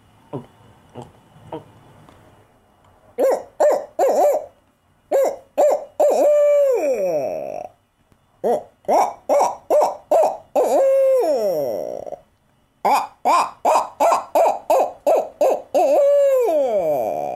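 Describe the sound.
A person swallows air in 3 or 4 soft gulping clicks, then imitates an owl: loud bursts of short rhythmic hoots broken by drawn-out, falling hoots. No talking.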